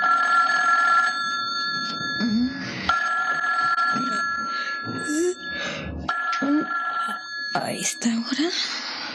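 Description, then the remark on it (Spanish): A telephone bell rings insistently in a hotel room in steady, high-pitched bursts with brief breaks between them, while a low voice murmurs faintly underneath. “El timbre telefónico repiquetea en el cuarto que ocupa la bella y peligrosa Diana Morris en otro hotel.”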